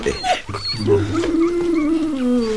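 A dog growls steadily, a low rumbling snarl that holds for a couple of seconds without pause, with no talking over it.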